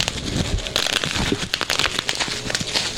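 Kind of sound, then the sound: household object, bubble wrap popping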